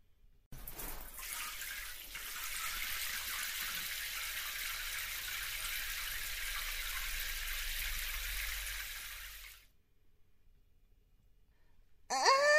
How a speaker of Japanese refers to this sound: 片付けしたら汗かいちゃった。ねえねえ、お姉さんもさっとシャワー借りていいかな。